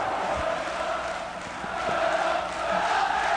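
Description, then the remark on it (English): A large baseball stadium crowd roars continuously after a home run over the center field wall wins the game 4-3 for the Cubs, a dense, sustained wash of cheering and shouting, loud and unbroken for the whole stretch with no single voice standing out. “It's a home run over the center field wall. Have they won it? The Cubs have won the game. It's 4-3. The crowd is going crazy.”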